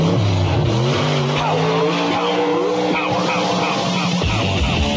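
Powerful Hot Rod 4x4 and two-wheel drive truck engines roar loudly and continuously in a National Championship truck pull at UNO's Lakefront Arena in New Orleans, revving and straining with rising and falling pitch, with occasional tire screeches cutting through the thick mechanical din.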